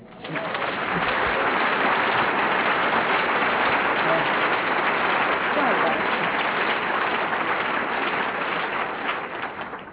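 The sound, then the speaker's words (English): A crowd claps steadily for several seconds, a dense crackling wall of applause that holds an even loudness throughout before fading slightly at the very end. “You know, you shouldn't applaud alcoholics.”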